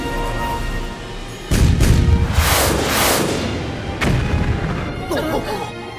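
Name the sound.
explosion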